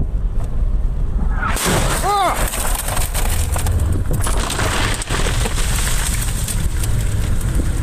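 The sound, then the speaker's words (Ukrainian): An incoming shell explodes in a sudden, loud blast through a steady background rumble and leaves the spot smoking. A long wash of crackling, rain-like debris noise follows, with a brief tonal whine that lingers to the end. “Шо, сраный Ванька, сюда прилетел, гаденыши, дымится еще, падла.”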